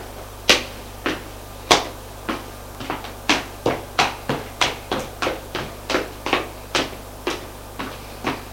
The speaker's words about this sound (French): La bonne frappe à la porte.